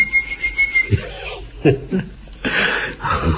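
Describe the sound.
A single steady whistled note, held for under a second, as a man pretends to call for his dog, followed by breathy chuckles and short bursts of laughter.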